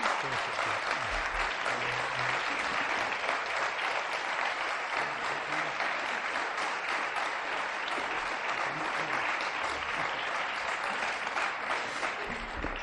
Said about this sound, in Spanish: Un aplauso.